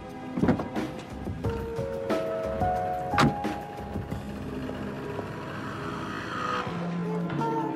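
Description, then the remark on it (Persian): A motorcycle engine revs up and down in several rising whines, loud, with a sharp burst partway through and a rough rumble continuing underneath; no one speaks. “چی شد؟ اون موتوره.”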